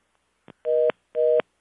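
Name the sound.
phone tone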